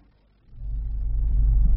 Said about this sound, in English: Traffic.